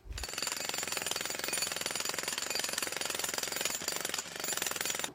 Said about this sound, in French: Le marteau-piqueur aussi est un risque auditif et les décibels provoqués peuvent monter jusqu'à 150 décibels.